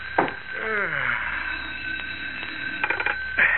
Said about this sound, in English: In Willow Heights, the well-to-do suburb 18 miles from the heart of Metropolis, it is just after 11 o'clock at night. As in his small police station, Sheriff Johnson yawns and reaches for the ringing telephone on his desk.